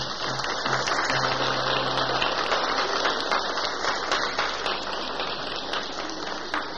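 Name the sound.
audience applause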